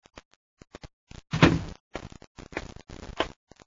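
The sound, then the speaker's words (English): The door to Shardu's office at his headquarters in the capital city of Dargida opens: a few sharp latch clicks, a louder rattling burst as it swings, then more clattery knocks and scrapes, with no voices. “As the door opens, he turns.”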